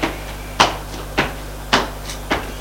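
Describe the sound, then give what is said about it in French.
Footsteps in a corridor: four firm, evenly spaced steps about half a second apart, each a sharp knock with a fainter scuff between, over a steady low hum and no voices. “Des pas dans le couloir.”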